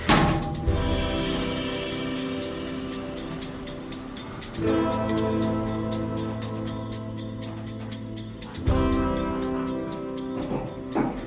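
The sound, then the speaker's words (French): An elevator descending from the ground floor to the basement: a steady, layered motor hum with fast mechanical ticking running throughout, swelling up again twice as it goes. No one speaks. “On va prendre l'ascenseur.”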